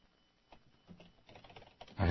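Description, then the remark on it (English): Quick, uneven keystrokes clatter on a computer keyboard, building into a brisk burst of typing before a louder, thicker rush of noise cuts in at the very end. “Can't leave the comma out even if I'm typing on the fly.”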